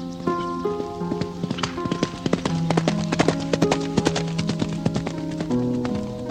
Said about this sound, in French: Ah, et puis alors là, ils sont peut-être pas là toute l'année, là, dans la brume, mais nous avons nos Henson, c'est-à-dire ces chevaux. Alors ça, c'est des agents indispensables pour le stationnement des oies.